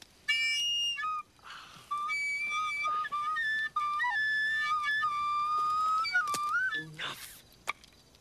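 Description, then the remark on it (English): A flute plays a slow, wandering tune of breathy, sustained notes that slide and step between pitches, pausing briefly between phrases before a final short, higher flourish. “It's a magic flute from my dad's shop.”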